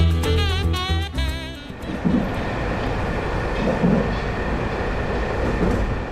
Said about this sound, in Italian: Quando il treno arriverà alla stazione,